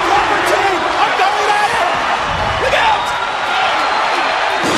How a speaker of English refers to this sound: Oh, this was awesome. That pop is the number one pop. That glass breaking.